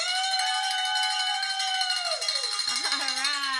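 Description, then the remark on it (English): A bell rings out loudly with a bright, sustained metallic tone full of shimmering overtones, holding steady before wavering and bending in pitch toward the end, with no talking. “And we get to ring the bell because we're a founder.”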